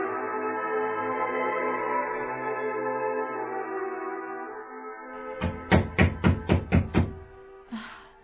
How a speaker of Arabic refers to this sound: من هذا الذي يقرع الباب بحلقة لا يقرع بها إلا رسول الله؟ إني عمار بن ياسر يا سيدة النساء.